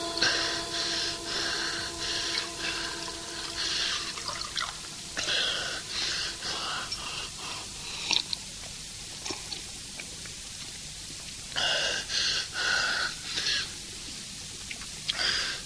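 Someone in a hospital gulps water, with wheezy, gasping breaths between uneven bursts of swallowing, pausing briefly before a final round of drinking. No one speaks.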